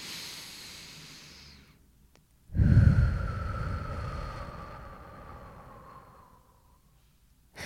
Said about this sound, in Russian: И он говорит: «Нет, твой вдох должен равняться твоему выдоху, поэтому давайте вместе».